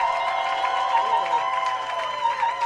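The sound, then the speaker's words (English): A roast battle audience claps and cheers steadily to vote for New York City Roastmasters champion Zach Amico as winner, with whoops and shrill whistles riding over a dense wash of applause that holds at an even loudness throughout. “And if you think New York City Roastmasters champion Zach Amico is your winner, clap your hands.”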